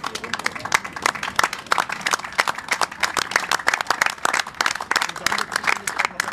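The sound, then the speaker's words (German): An audience applauds the panel of those present, a dense patter of many hands clapping at a fairly loud, even level throughout, with no voices standing out. “Genau, vielleicht ein Applaus für die Runde der Anwesenden hier.”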